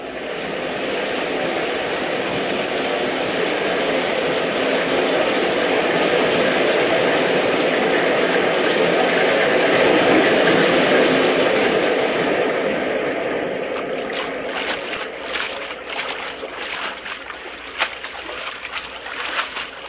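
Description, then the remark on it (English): A loud, steady roar of rushing water from a waterfall fills the scene as people are carried under the falls, then gives way to choppier splashing and sloshing near the end. “They're taking us under the waterfall.”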